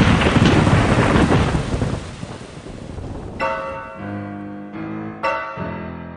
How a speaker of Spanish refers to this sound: ¡Ay, mira los relámpagos! ¡Qué padre se ven! Sí, parece que forman grietas en el cielo. Y después, el estruendo.